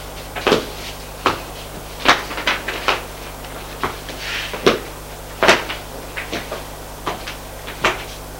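A man opens a door off a corridor in a dark apartment: a series of sharp wooden clicks and knocks at irregular intervals, some louder than others, over a faint steady low hum, with no one speaking.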